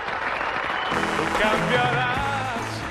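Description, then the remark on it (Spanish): An audience at the Teatro Principal de Valencia applauds as the curtain rises and a singer dressed in white appears on stage, a dense, steady wash of clapping that swells slightly after the first second, with some sustained cheering or musical tones mixing in underneath. “El respetable empieza a aplaudir”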